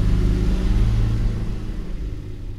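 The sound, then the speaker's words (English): A tractor engine rumbles loudly as it is worked through its gears while shoving dirt around, a deep steady drone with a slight rise and fall in revs over a few seconds, with no voices. “Pretty soon, he was working the gears in a tractor in his neck brace, shoving dirt around.”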